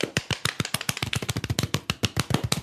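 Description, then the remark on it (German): A fast, steady series of sharp, loud slaps, roughly ten per second, each a crisp smack of skin on skin as people slap each other in the face, continuing without pause and with no voices over them. “Schlagt ihr euch gegenseitig oder was macht ihr gerade?”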